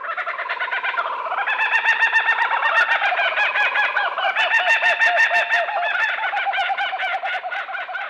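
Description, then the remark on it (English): Kookaburras erupt in a loud, raucous laughing call, rapid cackling notes that rise and tumble in continuous overlapping bursts for several seconds, with no one talking. “The bird's name, which imitates its raucous call, derives from an Australian Aboriginal language, Wiradjuri.”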